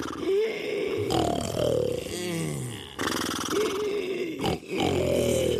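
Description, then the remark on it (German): Several loud, overlapping snores from sleeping robbers and a donkey named Muliboy in a robbers' camp, rumbling and grunting in uneven rhythm, with rising and falling wheezy snorts, continuous, with no talking. “Im Räuberlager schnarchten der schweigsame Heino, Moni Zitroni, Charlie Bumm und der verrückte Esel Muliboy friedlich um die Wette.”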